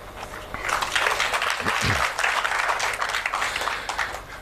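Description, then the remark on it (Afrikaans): An audience at a poetry reading breaks into steady applause after a short poem, a dense crackle of many hands clapping that swells quickly and holds at a fairly loud level for several seconds, with a brief low vocal sound mixed in. “Julle hoef nie daar elkeen te klap nie.”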